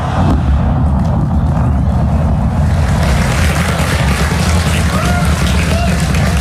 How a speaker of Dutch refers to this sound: Het onbemande ruimtevaartuig Starship is voor het eerst in maanden met succes de lucht ingeschoten voor een nieuwe testvlucht. Het steeg op vanaf de basis van het ruimtevaartbedrijf SpaceX in de Amerikaanse staat Texas. 4, 3, 2, 1.